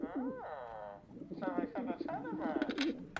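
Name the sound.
pigeon cooing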